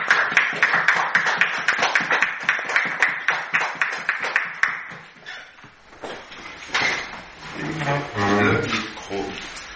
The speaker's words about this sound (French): Alors, on les applaudit très fort. Que Dieu vous bénisse.